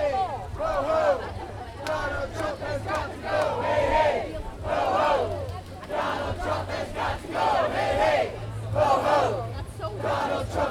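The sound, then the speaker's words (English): Tens of thousands at Philadelphia's No Kings rally against President Trump on the Ben Franklin Parkway chant and shout in rising waves, voices blending into a loud, continuous roar with rhythmic surges throughout. “Tens of thousands filled the Ben Franklin Parkway as part of Philadelphia's No Kings rally.”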